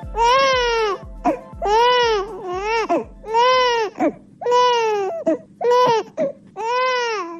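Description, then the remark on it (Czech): An infant in Bosnia and Herzegovina cries loudly in a string of about seven long wailing bursts, each rising and falling in pitch, separated by brief gasping breaths, with no talking. “Ovaj zvuk plača bebe u Bosni i Hercegovini, sve se slabije čuje.”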